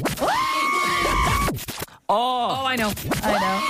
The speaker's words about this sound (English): Very short reaction. Tiny little scream.